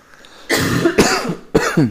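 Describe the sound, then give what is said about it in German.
Two people cough, a loud run of harsh, overlapping bursts followed by two more sharp coughs, with no talking in between. “Wir husten schon im Duett.”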